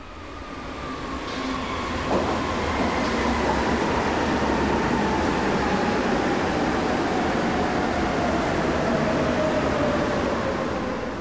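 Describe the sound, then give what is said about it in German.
A Berlin U-Bahn G1 subway train runs steadily past, its broad rumble and hiss filling the space, with a faint electric whine gliding downward in pitch throughout; no voices are heard. “Im Jahre 1988 erfolgte eine neue Lieferung von G1-Zügen, die jedoch eine andere technische Ausrüstung hatten und daher nicht mehr mit den älteren Fahrzeugen kuppelbar waren.”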